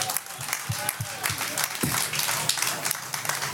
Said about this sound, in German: Und in diesem Sinn, das ist euer Applaus für alle, die heute mitmachen und für Stadtmarketing.